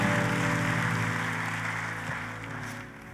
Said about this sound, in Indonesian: Tepuk tangannya boleh yang paling meriah buat raja di atas segala raja.